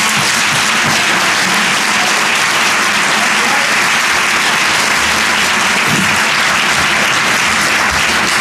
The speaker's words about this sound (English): As the vice president told you, that applause comes from not the working press.